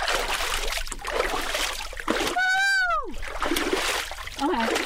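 Close, repeated splashing and dribbling of water, as if scooped onto the face and hands, broken midway by a sharp, falling vocal yelp before the splashing resumes.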